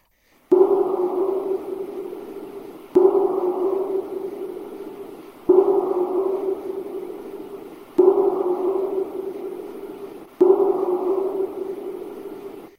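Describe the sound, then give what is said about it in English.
A looped recording of a power knock, clip number two from the Olympic Project, plays five times, about every two and a half seconds. Each one hits with a sharp, loud onset, then a low, buzzy tone slowly fades. No one speaks. “So without any further delay, let's go ahead and hear clip number two, the power knock, and we'll just keep going on the other side.”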